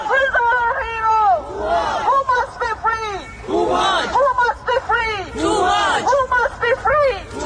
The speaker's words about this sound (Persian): همزمان روز پنج شنبه ششم اردیبهشت در بعضی از شهرهای اروپا و آمریکا تجمعاتی اعتراضی علیه حکم اعدام توماج صالحی برگزار شد. در لاهه هلند معترضان با فریاد زدن نام توماج خواستار آزادی او شدند.